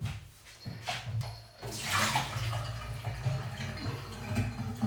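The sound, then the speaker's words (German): Water is tipped out while making coffee, a steady splashing rush for a few seconds, with a low background hum and brief clatters before the pour begins. “Ja, jetzt noch das Wasser wegkippen.”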